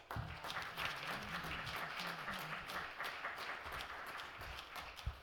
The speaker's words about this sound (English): So let us warmly welcome him with a big round of applause.